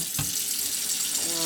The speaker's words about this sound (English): I'm going to get a bowl. So I'm going to fill it with cold water.